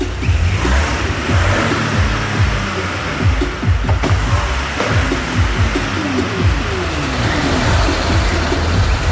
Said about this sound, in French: Une Peugeot 206 grise, mouais. Bon, on voit. Oh, on peut même pas rentrer. Qu'est-ce que c'est que cette voiture qu'on nous a donnée? Je te jure, c'est la honte, regarde, elle fait un bruit de tondeuse.